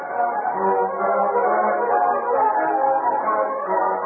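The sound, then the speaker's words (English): A train whistle from an express train coming from the east at Rock Canyon blows in one long, unbroken, steady blast lasting about four seconds, fairly loud and droning, with no voices over it. “Finally, they heard a train whistle.”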